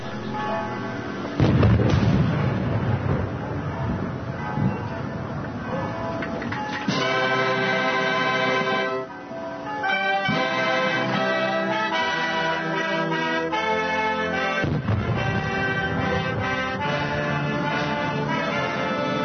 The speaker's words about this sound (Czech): Crveni tepih, svečani stroj, čak 4 reda gardista, ali i crkvena zvona i 12 ispaljenih plotuna. Sve to u čast dolaska predsjednika Rusije Vladimira Putina.